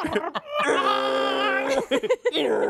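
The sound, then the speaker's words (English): A voice imitates a dial-up modem, holding a nasal, wavering electronic-style screech for about a second, then breaking into choppy, rapid sputters before a lower buzzy tone at the end. “The dial up internet sound.”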